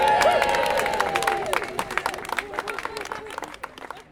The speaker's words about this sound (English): Give yourselves a round of applause, everybody!